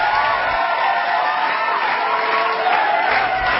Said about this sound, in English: The tubby reality TV host has been getting deafening applause from the wildly intoxicated crowd.